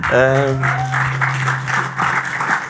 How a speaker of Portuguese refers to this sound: Pá, muito obrigado a vocês por tornaram esta experiência muito melhor, e acho que devem mesmo bater as palminhas a vocês próprios.